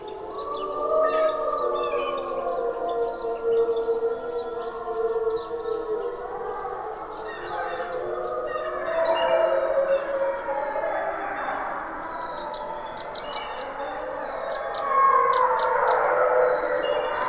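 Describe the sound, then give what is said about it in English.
A wild wolf pack howling in chorus in Algonquin Park, Ontario, several long wavering voices rising and falling and overlapping continuously, with higher yips flickering above, steady and fairly loud throughout with no talking. “And there are still wolves there. And they are wild and kept wild.”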